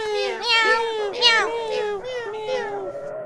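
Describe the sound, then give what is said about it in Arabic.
A person's voice imitates a cat meowing, making several drawn-out, rising and falling meows in a row, clear and distinct. “مياو مياو. إذا لنناديهم فورا.”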